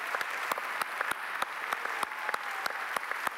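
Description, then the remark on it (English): A church audience applauds steadily for the guests and visitors standing up, many hands clapping together in a dense, even patter with sharper individual claps standing out, at moderate volume with no one speaking. “We just want to clap for you.”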